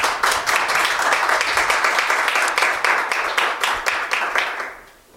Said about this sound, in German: Bevor es Fragen gibt, erstmal noch ein großer Applaus und vielen herzlichen Dank.